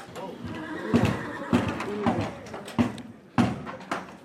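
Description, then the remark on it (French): An impatient horse kicks a stable door with its hooves, landing about six loud, hollow thumps at an uneven pace, with some stamping and shuffling between the blows. “Il y en a un qui n'est pas content, là. Non, tout à fait. Un qui s'impatiente. Il donne des coups de sabot dans la porte.”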